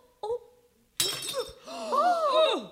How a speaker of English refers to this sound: Look what you've done, you clumsy girl! You've broken a china dog! The Basset Hound, no less!